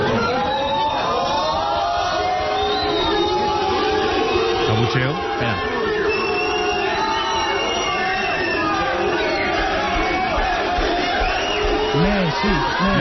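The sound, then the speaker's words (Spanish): A large crowd in Bosnia chants and shouts the name Messi as Cristiano Ronaldo arrives with the Portugal national team, many voices overlapping in a loud, continuous roar with rising and falling calls that never let up across the whole stretch. “Que llega Cristiano con la selección de Portugal a Bosnia y gritan Messi.”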